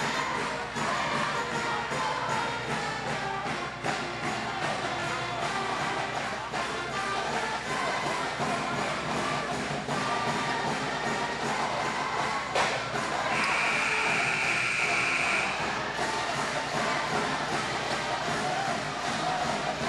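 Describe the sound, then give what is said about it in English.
A packed high school basketball arena roars continuously as the crowd chants "Hail Bad Axe" and "USA" in a steady rhythm, loud, with no commentary over it, during USA's last timeout with Bad Axe leading 53-49 and 27.9 seconds left. “And we're just going to let you listen to this crowd for the next 15 seconds.”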